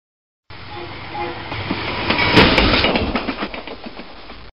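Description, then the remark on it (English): A train heading north rumbles along the rails with a steady clickety-clack, rhythmic wheel clicks over a broad roar, swelling to a louder burst midway before settling back into the repeating beat. “Excuse me, is this train going to Petten?”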